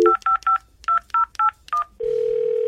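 Seven quick telephone keypad tones beep in a rapid, uneven rhythm, each a short dual-pitched blip, as a call is dialed to DJ Automatic's mother, followed by a steady ringing tone from the line. No voices are heard.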